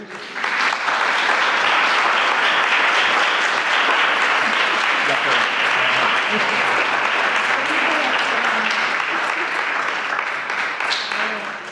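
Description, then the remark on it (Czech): Steady, light and restrained applause from a church audience, many hands clapping at once in appreciation of the two leaders of the children's Sunday school after 30 years; a dense even patter that holds for about eleven seconds before easing slightly at the end. “A já si toho jako velmi jako cením a myslím, že to je hodné i našeho takového lehkého, decentního potlesku.”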